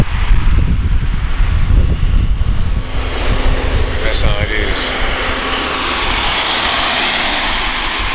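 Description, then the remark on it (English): Traffic rushes past in a continuous low roar with a broad, washing hiss that swells and fades slightly, while a man speaks briefly over it near the start. “I know you hear all this traffic going by, right?”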